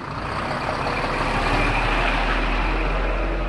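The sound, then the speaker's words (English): Diesel trucks idle and rumble steadily at a diesel truck stop next to the port of Calais, France, where a British trucker fills up his rig, a dense low engine drone at a constant, fairly loud level, with faint hints of beeping and air brakes in the mix. “At a diesel truck stop next to the port of Calais, British trucker”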